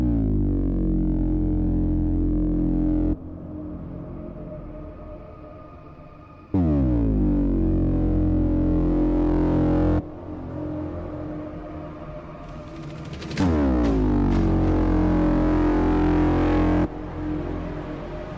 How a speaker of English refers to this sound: The first one is LED Rover, but it's probably LED Rover because it's an LED and germanium diode overdrive, and it sounds juicy. And I actually have it ready to play. Have a listen to this.